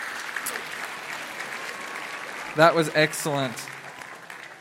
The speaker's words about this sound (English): Can you guys give these two a round of applause as they head back to their seats?